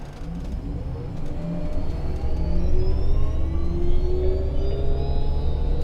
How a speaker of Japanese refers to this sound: 発車します。お捕まりください。危険ですので車内の移動はおやめください。